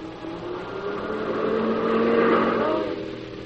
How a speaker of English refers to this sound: Oh, Peter, there's the car.